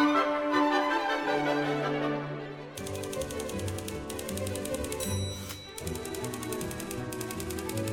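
Rapid typewriter keystrokes clatter in quick rhythmic bursts over a lively orchestral tune, with a bright bell ding cutting through; the typing is loud and up front against the strings and brass.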